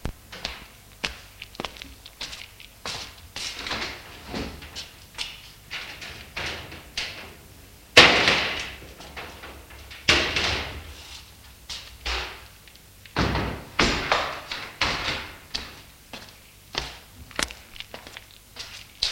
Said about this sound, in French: Elle ouvre les volets pour faire entrer le soleil.